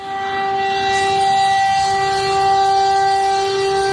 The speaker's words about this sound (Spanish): Es la alarma que ayer sonó en Dnipro antes de un ataque que ha arrasado el aeropuerto de la ciudad, uno de los más importantes en esa zona.